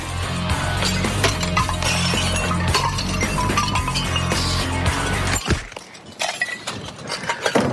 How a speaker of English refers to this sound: Thought the purpose of the crushing machine was to crush it. It is. Why are we crushing it? We're trying to spare the parts that we can spare by crushing up what we can by hand.